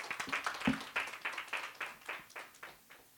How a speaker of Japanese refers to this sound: はい、皆さん拍手で迎えてください。